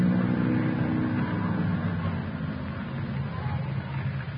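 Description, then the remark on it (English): An old jalopy car's engine runs steadily, a continuous low rumble holding at an even loudness throughout with no revving, while faint voices murmur underneath. “That engine sounds nice, doesn't it?”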